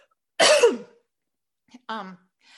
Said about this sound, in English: Excuse me. Isn't it funny these days when you have to really apologize for every cough? Just have a little tickle.